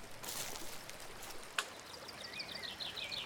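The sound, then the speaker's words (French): A steady, gentle rush of a river flowing through a forest at daybreak, with a brief click partway through and soft bird chirps joining in toward the end. “Elles marchent un moment dans la forêt et arrivent près d'une rivière.”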